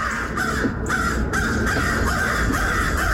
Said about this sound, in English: Y'all, everything is right with the crows. We're back in with the crows? We're back in with the crows, even after one of their own was brutally murdered. This was my neighbor's backyard.